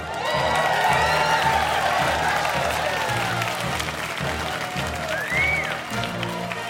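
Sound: audience applause and cheering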